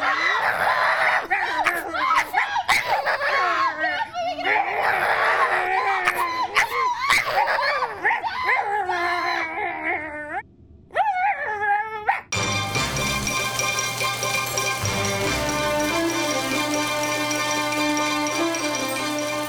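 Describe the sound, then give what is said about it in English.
A boy and his sister barking like dogs: loud dog-like barks, yips and high whimpering whines come in a rapid, agitated run for about twelve seconds, then stop abruptly as steady music begins. “And after all I do for you, if you bark at me one time.”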